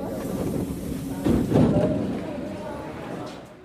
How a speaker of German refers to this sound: Jetzt fahren wir mal eben kurz S-Bahn eine Runde.